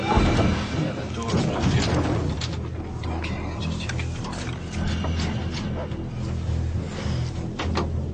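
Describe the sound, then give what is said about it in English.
A polar bear sniffs and shoves at a door close by, systematically trying it from all angles, setting off a run of rattling, clattering knocks over a steady low rumble that continues throughout. “It's gathering information before it approaches, like it would when stalking a seal. My scent is strongest at the weakest point, the door.”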